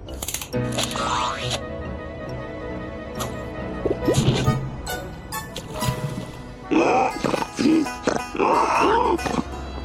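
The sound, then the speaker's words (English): Pigs grunt and let out a run of shrill, wavering squeals near the end as someone ejects into them, loud amid a busy clutter of cartoonish sound effects. “Good thing I ejected into those pigs.”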